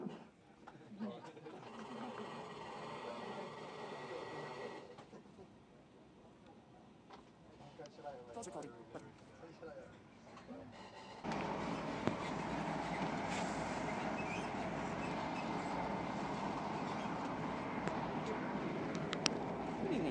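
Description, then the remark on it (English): Inside a train stopped and delayed by a signalling problem: a steady mechanical hum fills the carriage with indistinct murmuring voices, and the rumble swells noticeably louder partway through before holding at a constant level. “Once again, my apologies for further delays on this service. It's due to a signaling problem. I hope to be on the move again very, very shortly.”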